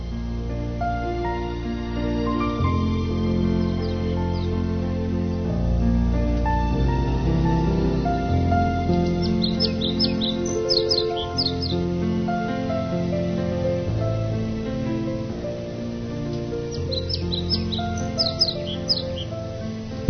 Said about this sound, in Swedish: Passa på att sätta ut micken genom fönstret här lite grann. Rikta den till fönstret så man kan höra den här. Vad är det, en koltrast? Jag vet inte.